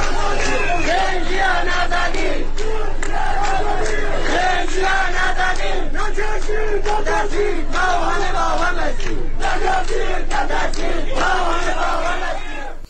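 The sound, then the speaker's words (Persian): A large protest gathering chants and shouts together in loud, rhythmic bursts on Monday morning in the town of Divandarreh, Kurdistan province, Iran, many voices rising and falling in unison with brief gaps between phrases, sustained throughout. “ویدیوهای دریافتی نشان می‌دهد از بامداد دوشنبه به ویژه در شهر دیوان دره استان کردستان تجمع بزرگ اعتراضی جریان دارد.”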